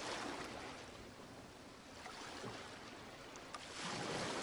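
A steady, broad wash of surf rolls onto a shore, filling the whole stretch with continuous hissing water and swelling slightly louder toward the end. No one speaks.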